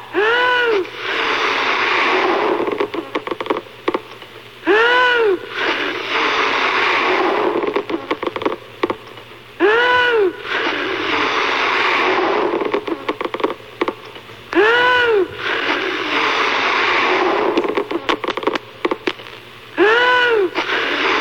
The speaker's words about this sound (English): how many puffs do you think it'll take before our balloon buster pops another Good Guy balloon here?